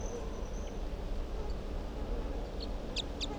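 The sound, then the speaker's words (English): A wild bird gives a quick series of three or four short, high chirps near the end, faint over a steady low rumbling background with no talking. “Wild bird.”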